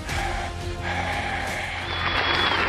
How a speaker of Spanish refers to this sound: Ay, mira, me aplaudieron hoy y ni siquiera es mi cumpleaños.